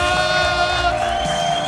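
A crowd cheers and whoops loudly for an audience member picked by number, sustained voices holding pitched yells over a steady wash of noise for under two seconds, with possible applause underneath.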